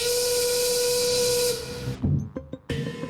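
steam whistle blowing

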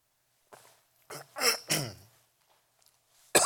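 coughing and throat clearing

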